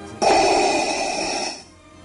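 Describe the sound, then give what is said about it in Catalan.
A single loud breath drawn through Darth Vader's mask from Star Wars, hissing and mechanical with a hollow resonant rasp, lasting over a second before trailing off into quiet. “Ell encarna el costat fos de la força, tan senzill com sumar aquesta banda sonora que estem escoltant, que és la música icònica de Star Wars, amb aquesta respiració.”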